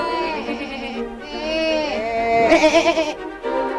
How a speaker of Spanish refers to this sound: Y la oveja le da charla, ellos se entienden entre ellos, ¿viste?